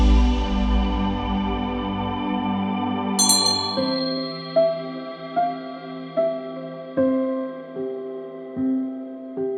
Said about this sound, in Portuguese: Vamos iniciar a nossa sessão agora, ao som do sino, né?